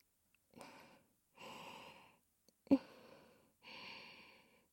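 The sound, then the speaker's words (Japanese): Soft breaths exhaled onto the listener's right nipple in a slow series of about four, with one sharper, quick intake of air in the middle; no talking, just quiet airy breathing. “私の吐息が、 あなたの右の乳首にかかる。”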